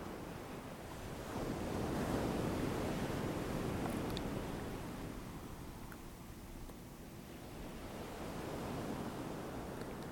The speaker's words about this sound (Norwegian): Fortsett å være i pusten og lyden av bølgene.